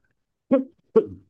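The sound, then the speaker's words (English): Two short, throaty coughs about half a second apart, the second slightly longer and trailing off, with silence around them and no talking. “Pardon me of the coughing.”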